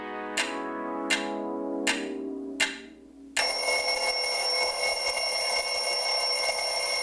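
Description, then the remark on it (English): A bell strikes four times at a steady, unhurried pace, each clear metallic chime ringing out, then gives way to a continuous, loud bright ringing that holds steadily to the end. No voices. “And with that bell, it marks the end of this episode of Girly So Groovy.”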